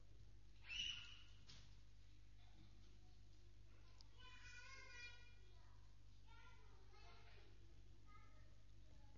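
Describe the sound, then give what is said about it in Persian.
Children's voices chatter and call out with an echo inside a mosque, with a sharp loud cry near the start and a steady low hum throughout. “خانومای عزیز، یا بچه ها رو مسجد نیارن یا اگر میارن باید سرپرستیشون کنن.”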